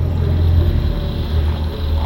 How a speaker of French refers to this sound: Vous entendez ça? Un hélicoptère, vous le voyez? Oui, on le voit d'ici, il vole pas.